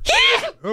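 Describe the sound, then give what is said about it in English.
A single loud sneeze with a sharp breathy burst, followed a moment later by a short voiced sound. “Bless you.”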